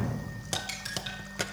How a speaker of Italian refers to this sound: Suono di conchiglia.